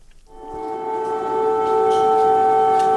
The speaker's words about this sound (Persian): این صدای آژیر هشدار قرمز در کیف در ساعت اولیه بامداد جمعه است. صدایی که عموماً در طول شب شنیده می شود، آن هم زمانی که روسیه با استفاده از پهپادهای انتحاری یا موشک شهرهای مختلف اوکراین را هدف قرار می دهد.